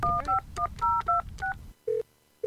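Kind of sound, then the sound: signal or alarm, cell phone dialing tones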